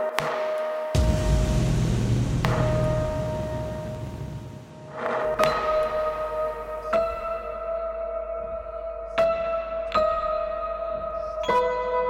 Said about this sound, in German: Auch hier ist es so, bei dieser Melodie, dass ich es hoch aufgenommen habe, sowohl das Klavier als auch das Glockenspiel, und es dann eine Oktave nach unten gepitcht habe.